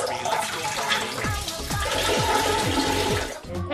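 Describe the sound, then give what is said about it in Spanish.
A pink toy toilet, an accessory for the Barbie doll, flushes with a steady rushing whoosh of water, and a series of gurgling, swirling drops runs through the middle before the sound cuts off. It is fairly loud. “El accesorio más buscado de la muñeca Barbie es un excusado rosa con el sonido inconfundible del agua cuando se le jala a la cadena.”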